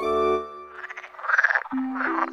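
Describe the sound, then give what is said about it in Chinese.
Frogs croak by a pond in quick rattling bursts, with a deeper drawn-out croak at the start and low steady calls near the end; no one speaks. “池塘边，青蛙家族神情严肃的正在召开家庭会议。”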